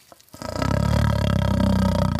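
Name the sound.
lion roaring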